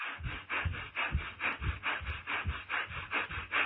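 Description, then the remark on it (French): Quick, forceful breaths in and out through the nose, about three per second in a steady, even rhythm, each a short breathy rush with a rough, hissing texture. No one speaks. “un inspire-expire avec le nez uniquement et très rapidement”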